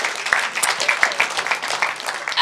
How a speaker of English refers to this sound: Woo, can we give the Lord a hand clap today? Wow.